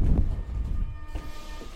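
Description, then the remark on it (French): A metro train rumbles into a station in Paris, a steady low mechanical drone with faint hissing and squeals, moderately loud, with no voices. “Le métro, dépêchez-vous.”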